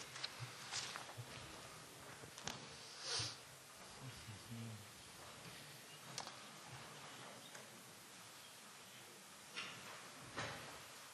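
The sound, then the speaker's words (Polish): A door is pushed shut, with a few soft knocks and thuds scattered among shuffling footsteps and faint murmuring in the background. “Zapraszamy i prosimy o zamknięcie drzwi.”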